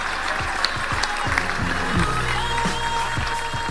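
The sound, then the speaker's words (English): An audience gives a round of applause for Brandon Stanton, steady and fairly loud for the whole stretch, a dense wash of clapping with some low musical notes sounding underneath. “A round of applause for Brandon Stanton.”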